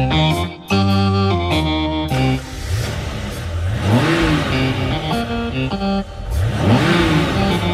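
Car engines in a parking lot start up with a rumbling idle, then rev twice in rising and falling sweeps, loud, with several motors humming together and no voices.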